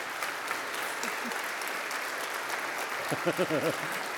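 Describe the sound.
Steady audience applause, a dense crackle of many hands clapping at an even level, with a voice briefly speaking over it near the end.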